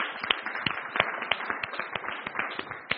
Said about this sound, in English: Isn't that wonderful? I think applause would be okay.